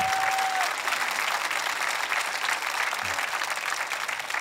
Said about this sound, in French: Si vous le croyez, avant que j'explose, voulez-vous applaudir ce matin?